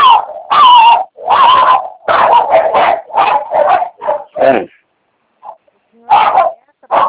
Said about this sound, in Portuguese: O barulho aqui tá ruim. É, cachorro